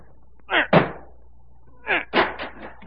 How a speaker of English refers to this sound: Break down the door. Here, this heavy chair will do it.